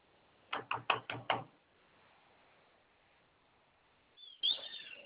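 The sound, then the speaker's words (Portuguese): Four quick, heavy pounding impacts from a pile driver, followed by a quiet pause and then a brief high squealing sound near the end. No one speaks. “Será que você tá zoado aí, negócio de bate-estaca ali?”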